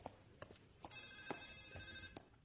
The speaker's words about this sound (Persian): ببخشید من برم این تلفن رو جواب بدم. باشه برو.